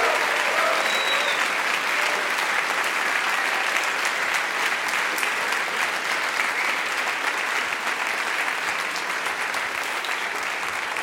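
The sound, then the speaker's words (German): A large audience in Frankfurt applauds steadily for about eleven seconds, a loud dense wash of clapping with no pauses and no voices standing out. “Also alle, die den Podcast hören, begrüßt ihr doch nochmal so richtig fett hier Frankfurt mit einem dicken Applaus.”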